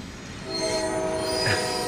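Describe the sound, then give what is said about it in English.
Metal train wheels screech loudly on rails in a sustained, high-pitched squeal, joined by rumbling railcars; the screech swells about halfway through and holds steady with no voices. “It's totally a train wreck.”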